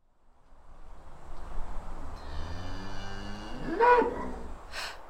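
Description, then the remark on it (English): A cow on a farm at night gives one long, low, drawn-out moo that swells and fades over a couple of seconds, followed by a short breathy snort, heard clearly on its own. “I heard a noise. What was it? It's okay, Claudia. It's a cow.”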